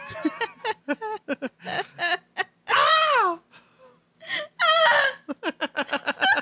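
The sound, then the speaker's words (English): Several people take turns imitating a Wilhelm scream with short, wavering, high-pitched yells, one long quavering cry in the middle and another near the end, between bursts of laughter and chatter. “for the next 2 minutes, let us each try our very best at doing our very own Wilhelm screams.”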